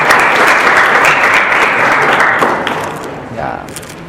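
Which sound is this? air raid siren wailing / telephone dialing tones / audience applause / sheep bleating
audience applause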